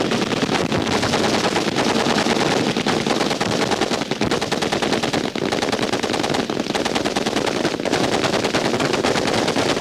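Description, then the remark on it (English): A full Marine Corps platoon in final protective fire: sustained, dense machine gun fire roars without pause, many overlapping rapid bursts blending into a loud, continuous crackling barrage with sharp individual shots punctuating it throughout. “Your full platoon in final protective fire.”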